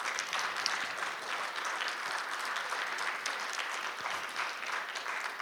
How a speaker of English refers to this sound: The legalization of marijuana, you can applaud, sir. I'd be just happy if you applauded. Thank you.